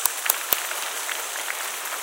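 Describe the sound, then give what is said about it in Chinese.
Steady applause from an audience for performers after a drama performance, a dense patter of many hands clapping at an even level with a few sharper claps standing out near the start. No one speaks. “我们多谢各位刚才精彩的演出，我们再一次鼓掌给他们。”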